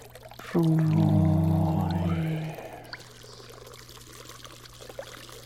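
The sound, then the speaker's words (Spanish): Clear water pours steadily into a clay jug for about two seconds, the hollow tone rising as the vessel fills, then stops, leaving a quiet background hum. “El agua clara caer sobre el cántaro.”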